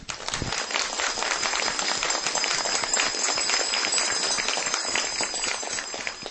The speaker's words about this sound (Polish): tym wszystkim, którzy na co dzień współtworzą ten ośrodek Barka, podziękujemy gorącymi oklaskami.